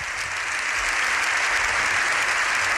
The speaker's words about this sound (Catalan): Doncs acaba així el discurs d'allò 14 a la Cambra Baixa, al Congrés dels Diputats, això des de Madrid. Aplaudiments ara mateix de l'hemicicle. Veiem, Dani Santeaja, com els diputats estan dempeus.